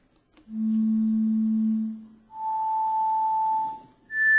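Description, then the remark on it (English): Three steady pure tones, played in a video demonstrating the basilar membrane of the cochlea, sound one after another, each climbing higher in pitch: a long low hum, a brief pause, a middle tone, then a high tone starting at the end. No voices. “The cochlea now uncoils and we look at the basilar membrane and now see what happens when we play individual tones.”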